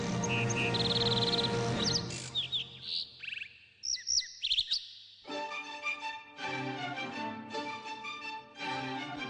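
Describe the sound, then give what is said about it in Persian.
Birds chirp and sing in a lively mix of quick high tweets and trills, clear, with a second stretch of denser, harmonically rich calls that sounds almost musical. “دعوتی به دیار آفتاب و باران، سرزمین آواز پرندگان و زمزمه جویباران.”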